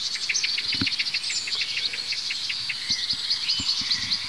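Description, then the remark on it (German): Birds give agitated alarm calls: a blackbird's repeated low clucking 'duck, duck' notes alongside a robin's thin, high 'zieh' calls, in a steady, rapid series over a soft background hiss. “Wir hören das Duck, Duck, Duck der Amsel. Wir hören ein hohes Zieh. Zieh, Zieh. Das könnte von einem Rotkehlchen sein, das hier gerade eben saß.”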